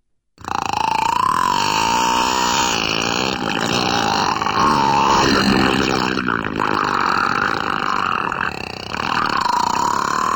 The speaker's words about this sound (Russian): Хорошо, давай еще раз послушаем кита, вернее, вторую часть. Уж больно долго он разговаривает. Болтун какой-то.